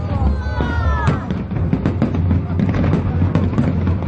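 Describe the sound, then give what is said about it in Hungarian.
A dense fireworks display from last year's August 20 state foundation celebration light show in Budapest, with rapid booms and crackling bursts overlapping continuously, plus a few whistling rockets near the start. Loud and sustained throughout, with a faint hubbub of people underneath. “Ezek a tavalyi fényjáték hanghatásai voltak.”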